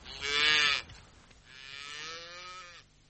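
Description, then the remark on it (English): Cattle at the Blue Mountains Railhead, stock driven down from the stations, mooing in two long, drawn-out calls, the first louder and stronger, the second a bit softer and steadier, each with a low, droning, harmonic tone and no talking. “What is this town anyway? All cows?”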